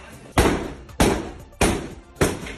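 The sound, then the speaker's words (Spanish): Four heavy, booming blows from a police battering ram hit the door of a private home to force entry, in a steady rhythm about half a second apart, each a loud crash with a short ringing decay. “Entonces deciden entrar por la fuerza con un ariete.”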